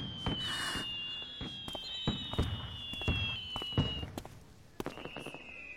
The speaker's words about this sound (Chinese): 宝贝，九日放烟花，哎，你快来看！